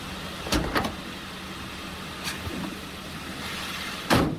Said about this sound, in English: Now, elsewhere, a large box-shaped truck slows and stops in a nighttime street.